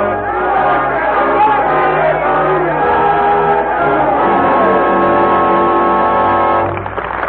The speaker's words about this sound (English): Up from the cellars of Paris, up from the bare fields of the starving peasantry, the crowd was coming, chanting its hate, screaming for blood. The people of France in all their might rising in revolution.